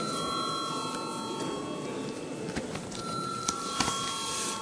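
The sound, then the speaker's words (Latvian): An electric voting call bell rings steadily throughout in the Latvian parliament (Saeima), calling members to vote on a bill amending the personal income tax law at first reading: a continuous buzzing tone with a few faint clicks and room noise beneath it and no one speaking. “Paldies, lūdzu zvanu.”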